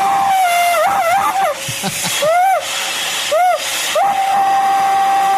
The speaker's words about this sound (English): Here's a terrified vacuum cleaner. It screams like a human if the vacuum vacuums over gaps where there's nothing to suck up.